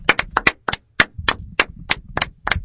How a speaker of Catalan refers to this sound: em sembla que ho estan intentant arreglar i per això són més segons d'aplaudiment.